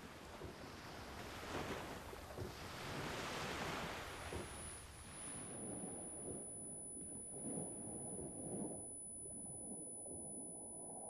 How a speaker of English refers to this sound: And that's the whole idea of my bucket list, is to remember what it sounds like to hear the water splashing up on the sand, what it is to hear seagulls and kids and just the sound of the water.